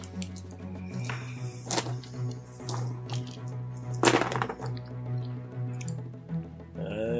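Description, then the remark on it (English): Six dice being rolled in a game: they rattle and clatter in a few sharp bursts, with scattered clicks between them over a steady low hum; no one speaks. “And I want you to roll your dice.”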